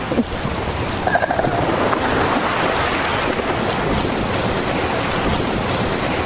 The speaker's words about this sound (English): Like the high point. Huh? That's like where the surf hit the high point.